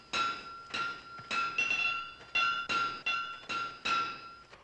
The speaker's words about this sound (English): At night in the squire's barn, Figure stands over a fire pit as Justin hammers metal on an anvil.